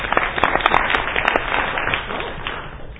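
A crowd applauds, dense overlapping hand claps forming a steady, fairly loud wash of sound that gradually thins and softens toward the end, with a few sharper individual claps standing out early on.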